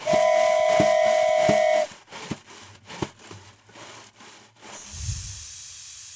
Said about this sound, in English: We gotta run and catch that train. Hurry. There's an open box car. We can jump in there. Oh, thank God it's slowing down.